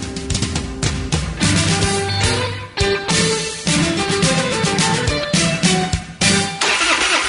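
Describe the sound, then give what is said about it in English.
A truck engine cranks over and over without catching, a loud, grinding starter whirr repeated in a few attempts with brief pauses between them. No one speaks. “Nothing is more frustrating than a dead battery. When your truck won't start or your boat or ATV leaves you stranded far from home, that's not good.”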